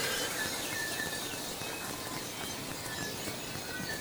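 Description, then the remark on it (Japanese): Steady rain hisses across the whole scene while thin, high calls of wild birds chirp intermittently in the background, faint but persistent beneath the downpour, heard from a home terrace in a lakeside forest in New Zealand before dawn, as the sky just begins to lighten. “あとその雨音に負けず野鳥たちの鳴き声聞こえますでしょうか。”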